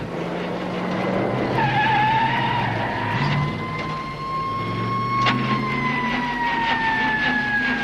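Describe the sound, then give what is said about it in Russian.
A car's tires squeal loudly in a long, wavering screech while the engine roars and revs, the vehicle peeling away with no voices present. “Эта машина — последняя капля.”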